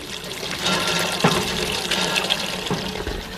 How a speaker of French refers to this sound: Je pompe de l'eau pour les vaches, je la mets dans cette vasque, je la mélange avec du fourrage et je leur donne.